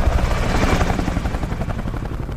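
An arriving helicopter's rotor blades beat in a steady, rapid thumping over a loud engine roar, sustained throughout, with no voices.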